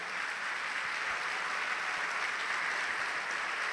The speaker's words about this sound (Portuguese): Vamos aplaudir a Jesus por isso.